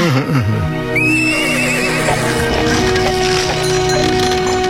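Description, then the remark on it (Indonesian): A horse neighs loudly, its whinny rising and trembling, over a steady background bed with faint hoof clip-clops as a horse-drawn cart slowly leaves the inner courtyard of the Katumenggungan. No one speaks. “Perlahan-lahan gerobak kuda yang dikusiri Kilurah Jatisari meninggalkan halaman dalam Katumenggungan”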